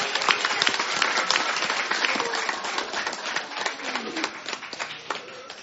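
A room full of people applauds steadily for several seconds, a dense patter of overlapping claps that stays fairly loud before thinning slightly toward the end.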